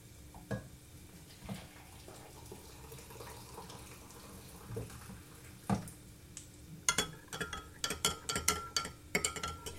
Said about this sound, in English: So now what I've got is I've got some boiling water and I'm going to make up some beef stock.